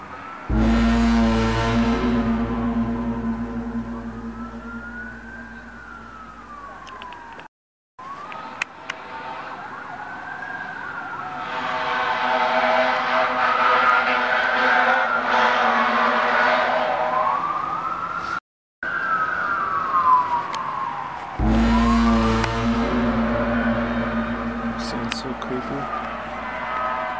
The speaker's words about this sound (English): Police sirens and cop cars could be heard riding all around as panic breaks out in the city.